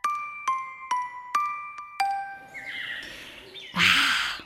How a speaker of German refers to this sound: Hörst du das, Julian? Ja, das sind die Vögel vom Anfang.